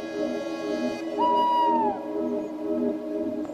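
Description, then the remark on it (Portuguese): A single drawn-out hoot from a tawny owl, apparently a male, a clear mid-pitched tone lasting under a second and sliding slightly downward at the end, heard over a steady low humming background. “Estamos a desfrutar apenas do pio, que se torna cada vez mais evidente.”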